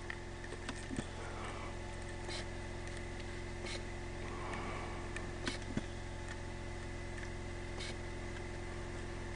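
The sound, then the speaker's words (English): A truck engine idles steadily, a low constant rumble with a few faint clicks and ticks scattered over it; no one speaks. “They're looking at each other and saying, "It's okay, he got in the truck."”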